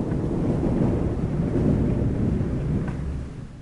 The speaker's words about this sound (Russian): И тогда начался дождь.